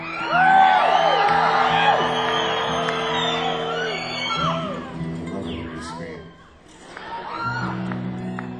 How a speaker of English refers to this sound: Man, a lot of guitar freaks here tonight. Kind of crowd I like, actually. Scream all you want.